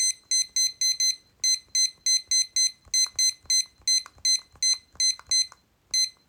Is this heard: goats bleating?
no